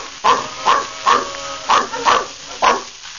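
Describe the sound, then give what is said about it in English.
A big dog barks six times in a steady, evenly spaced series, each bark loud and gruff, with brief quiet gaps between them and no one speaking. “All right, big dog with the big voice.”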